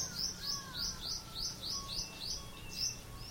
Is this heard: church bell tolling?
no